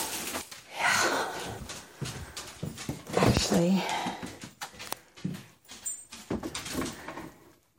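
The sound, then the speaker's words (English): A dog being let out through a door: paws clicking and scrabbling across the floor, snuffling and panting, with a few sharp knocks and clatters mixed in. “Yeah, just let the dog out.”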